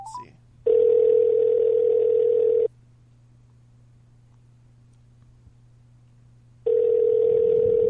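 A steady electronic ringback tone sounds in two long bursts separated by several seconds of quiet, like an outgoing phone call ringing on the line, loud with a faint hum underneath.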